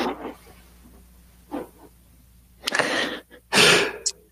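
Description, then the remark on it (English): A loud sneeze from a person with a lingering cold bursts out after a few soft breathy sounds, with a sharp noisy blast followed by a second, stronger explosive burst, then quiet. “The mute button sneeze is what you just the gap in time there.”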